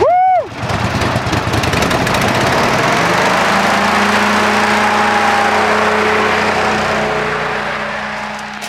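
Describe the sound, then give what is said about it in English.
A hovercraft engine cranks with a brief rising whine, then catches and settles into a loud, steady roaring drone with a low hum, tapering off slightly at the end. No one speaks. “Now, having survived the hovercraft, I'm ready to blast off a few shots here at the clay pigeon shooting.”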